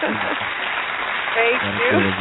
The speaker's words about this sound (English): when the Truth Brothers say we applaud you, we do mean it. Here's your applause.